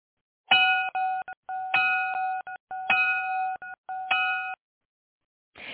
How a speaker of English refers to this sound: That bell's about to ring, folks.